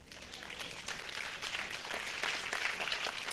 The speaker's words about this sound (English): Well, you know, that doesn't necessarily go over real well, but I do appreciate the few that applauded that.